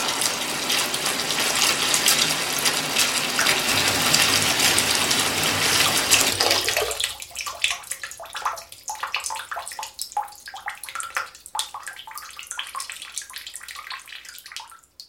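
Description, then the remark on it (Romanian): A tap runs hard for about seven seconds with a steady, broad rush of water, then is shut off, leaving scattered drips and small splashes trickling in the quieter remainder. “Oprește dracului robinetul ăla!”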